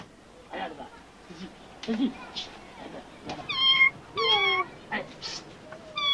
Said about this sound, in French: c'est de votre faute, Yorick, avec votre perche à la con, vous lui faites peur à ce chat